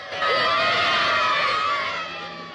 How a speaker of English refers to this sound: Joe wakes up to see the girls screaming at him